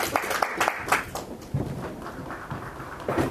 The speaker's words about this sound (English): Double applause. Very nice.